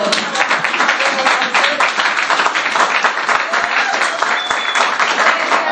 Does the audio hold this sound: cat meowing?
no